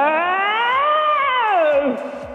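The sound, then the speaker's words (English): A single long, drawn-out shouted "ho" call for a ho-themed birthday party, loud, with added echo, its pitch wavering upward then sliding down, giving it a yowling, cat-like quality for about two seconds with no talking. “Give them some echo, Scott, and let them sure.”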